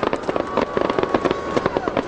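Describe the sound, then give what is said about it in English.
Rapid, crackling bursts of fireworks go off over the Chicago skyline at night on the 4th of July, in quick succession, a dense popping barrage with overlapping bangs, with faint crowd murmur underneath. “The sound of fireworks bursting over the Chicago skyline tonight, one of dozens of major fireworks displays drawing big crowds in cities across the country.”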